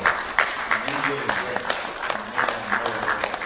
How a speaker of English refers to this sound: Another big round of applause for Dr.